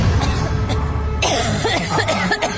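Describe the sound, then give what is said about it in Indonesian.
A person coughs right in front of a bedroom, a few rough, raspy bursts in a short cluster, fairly loud against a quiet background with no talking. “Dan kali ini suara orang batuk itu tepat di depan kamar tidurku.”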